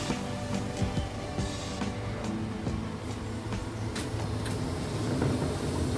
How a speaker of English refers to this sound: This train is the Southern service.